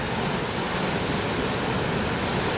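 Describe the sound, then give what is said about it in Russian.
A continuous, enveloping roar of churning water as a person dives into an ocean wave at dusk, loud and steady throughout with no voices. “Давайте мы туда занырнем в эту волну.”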